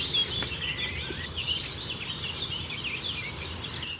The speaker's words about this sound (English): And if we just stop for a second, we're on a very beautiful little laneway. We'll just listen to the birds for 1 second, and you can hear the amount of nature around us.